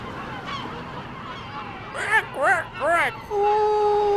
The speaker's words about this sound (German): Morgens hat man Geräusch von der Fähre und Möwen am Bosphorus.